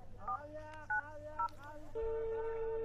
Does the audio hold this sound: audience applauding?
no